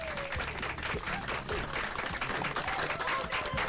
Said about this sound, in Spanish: pero la aplaudimos también.